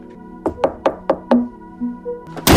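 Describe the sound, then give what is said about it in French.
A quick series of five sharp knocks on a door, then a pause and an abrupt, loud bang as the door is slammed shut in someone's face right at the end. No one speaks. “Pourquoi tu m'as claqué la porte au nez ?”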